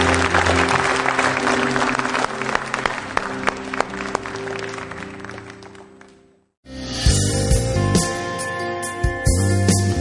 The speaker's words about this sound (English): I sure love your pastor, don't you? He's a good guy. Give him a good hand clap.